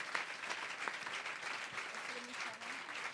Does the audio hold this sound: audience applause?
yes